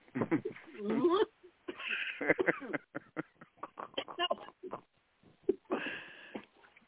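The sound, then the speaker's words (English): Repeated rough throat-clearing and coughing bursts, fairly loud, coming in irregular clusters with short pauses between them and a few wheezy breaths mixed in. “I guess I'm clearing my throat chakra.”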